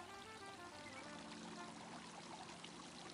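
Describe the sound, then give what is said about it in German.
Seeräuber brandy pours steadily into a glass on a terrace, a continuous splashing stream with a rising tonal ring as the glass fills over a few seconds, not quite to the top. No one speaks. “Oh, nicht ganz voll. Aber riechen tut er gut, ne?”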